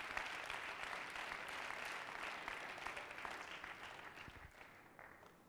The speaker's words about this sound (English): Why don't you clap your hands a little bit? Praise God.